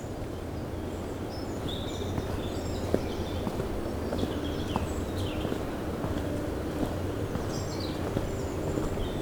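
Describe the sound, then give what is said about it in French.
Scattered seaside birds whistle and chirp in short bursts throughout at a cove by the sea sheltered by holm oak and pine forest, over a constant rushing background of wind or surf and low rumble. No one speaks. “Les oiseaux au bord de la mer sifflent.”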